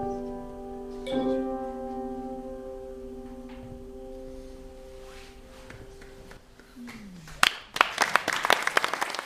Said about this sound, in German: Ja, ihr hört euer eigenen Applaus.